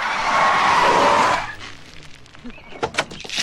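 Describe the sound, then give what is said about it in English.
Tires screech in a loud, sustained skid for about a second and a half, then give way to scattered rattles and thumps as a sugar truck jackknifes to a halt. “Hard to the left. Cut. Steer. Old man. Ah! Jackknife sugar truck.”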